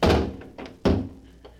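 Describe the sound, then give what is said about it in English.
A heavy vault door in an office swings shut with a deep, loud thud, followed by a softer clunk and a second solid slam, then a faint latching click, with no voices. “Now to close the door.”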